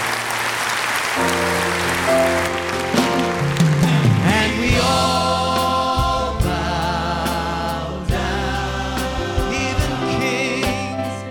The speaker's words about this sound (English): Would you thank him with a clap offering? Go ahead.